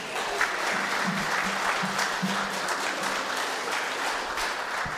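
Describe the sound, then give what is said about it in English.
An audience claps steadily for several seconds for a pupil who received two school awards, for responsibility and the Progress Excellence Award, a dense, even patter of many hands at moderate loudness that neither builds nor fades, with a faint low murmur beneath it. “Just wait, don't clap yet.”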